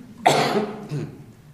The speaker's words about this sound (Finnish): Minä yskin sinä aikana.